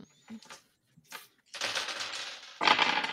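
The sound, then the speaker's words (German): Dice clatter and rattle across a hard surface as several players roll for a fear check, starting with a few light clicks then a dense burst of rolling, then another loud tumble at the end, fairly loud. “ihr würfelt bitte alle mal nochmal auf Furcht, also Logik oder Empathie.”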